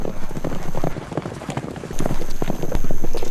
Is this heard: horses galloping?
yes